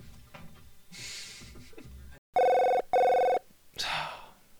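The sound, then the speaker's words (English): A telephone bell rings twice in loud, even bursts with a short gap between, preceded by soft rustling and breathy noises and followed by a sharp exhale. “B is the phone again. Don't get it though.”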